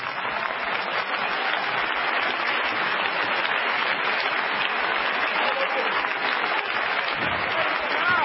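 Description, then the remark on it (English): Steady applause from an audience during a sermon fills the whole stretch, a dense wash of many hands clapping at an even, fairly loud level with no break or voices standing out. “Don't clap too loud.”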